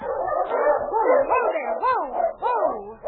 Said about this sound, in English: She saw a dog team heading down the street toward her.